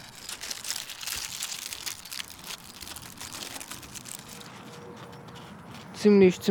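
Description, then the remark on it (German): Dry, stiff crinkling of hard, paper-like seed pods with seeds inside, several joined together, being handled by hand, a steady rustle and crunch running throughout, ending with a brief louder voiced sound. “Die sind fast wie dieser Wischpapier, also sehr hart. Das ist kein einzelnes Blatt. Das sieht aus wie mehrere miteinander verbunden. Und die machen so ein Geräusch.”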